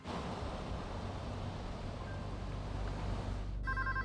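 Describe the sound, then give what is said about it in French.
A steady rushing, wind-like noise fills the scene, then near the end a telephone starts ringing with a bright, warbling electronic tone. “Mais le soir venu, il est si faible qu'il ne parvient même plus à répondre au téléphone.”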